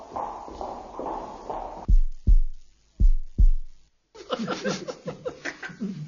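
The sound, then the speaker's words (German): A loud, deep heartbeat thumps twice in a lub-dub rhythm, four heavy low thuds in all, set between a stretch of shuffling noise and a burst of laughter. “Schimpanse. Wilder Hund. Schritte, Herzklopfen und Lachen.”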